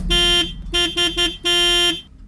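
A warning siren being tested by Stiftung Warntest in test number 1 sounds a harsh, steady-pitched buzzing tone: one long blast, three quick short bursts, then another long blast, loud and with no one talking.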